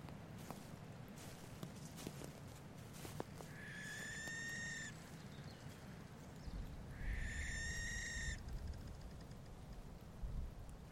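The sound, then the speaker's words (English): Two long, harsh, hissing screeches of a barn owl in grassland, each lasting over a second, separated by a few seconds of quiet outdoor ambience with faint rustling and low background rumble. “This ghostly pale and normally strictly nocturnal animal, the barn owl, is a silent predator of the night world.”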